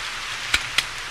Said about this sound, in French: Par contre, la pluie ne se calme pas.